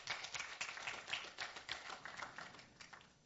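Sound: audience clapping hands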